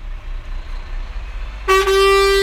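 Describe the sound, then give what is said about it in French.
A garbage compactor truck collecting rubbish at a market idles with a low engine rumble, then lets out one loud, sustained horn blast that lasts until the end, with no talking. “À l'endroit de pour aménager du marché B où le camion à compaction qui a été acquis par l'association Tokem et l'association Elan dans le cadre du projet est en train de faire le ramassage des ordures.”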